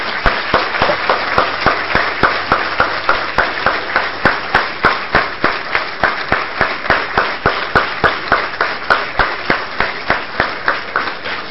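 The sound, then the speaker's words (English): Loud, sustained applause from a seminar audience thanking a speaker, a dense wash of clapping with a steady, regular beat of sharper claps running through it. No one speaks over it. “I would like to request all of you to please, with a large applause, let us thank”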